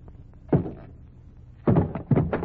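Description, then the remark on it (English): A hammer bangs at the lid of a wooden packing case to knock it off: one solid knock, a pause, then three quick heavy blows, fairly loud with a hollow woody thud. “I'm perfectly capable of knocking the lid off a packing case without help from a janitor.”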